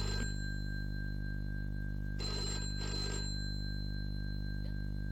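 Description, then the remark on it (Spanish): A telephone bell rings twice in quick succession, two short bursts of jangling, over a steady low electrical hum with no talking. “Papá, te llamo por teléfono.”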